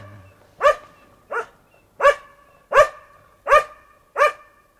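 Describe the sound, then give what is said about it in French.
A dog named Pistolet barks six times in a steady, evenly spaced rhythm, each bark short, loud and tonal with a clear mid-pitched ring, with quiet gaps and no talking in between. “Ouah, merci, Pistolet.”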